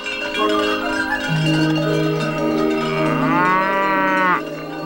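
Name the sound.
cow mooing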